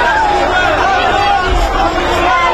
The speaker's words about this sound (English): Cheers from Israelis watching on an outdoor screen in Tel Aviv.